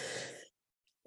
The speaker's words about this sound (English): Excuse me. Bless you. Sorry. Beautiful. You even sneeze beautifully.